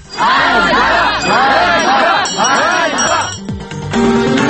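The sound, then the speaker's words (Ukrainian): A loud crowd of Ukrainian educators rallying in Kyiv to demand higher salaries, chanting a slogan in unison three times in a steady rhythm, then breaking into a rougher mix of shouting and scattered crowd noise. “Українські освітяни мітингували в Києві, вимагаючи збільшення зарплат.”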